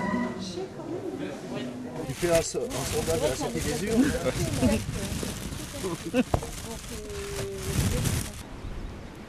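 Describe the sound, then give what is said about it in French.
A bunch of radishes is pulled out of a plastic bag, with crinkly rustling and crackling bursts over about nine seconds, while voices murmur underneath. “Ça, c'est le bruit de la botte de radis qui sort du sac plastique.”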